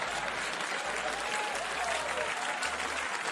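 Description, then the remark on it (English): Dense, loud applause from a comedy audience clapping at a Chappelle joke, a steady wash of many hands clapping at once with no break, faint crowd murmur mixed in. “Listen to how loud this audience is clapping at this shit joke.”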